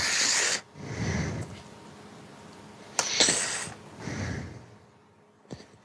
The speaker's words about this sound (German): Jetzt hören wir dich aber auch sehr atmen.